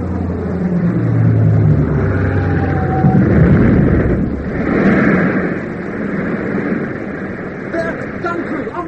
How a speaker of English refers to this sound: It's coming in for a bomb run. Get down, get down.